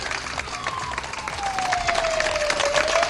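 Steady applause from a small group, dense overlapping claps with a few cheers, joined by a thin high whistle-like tone gliding slowly downward, the clapping growing slightly louder toward the end.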